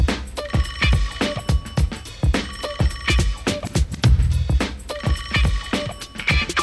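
A car phone rings in repeated bursts over a steady, thumping musical backing, the ringing tones loud with no one speaking.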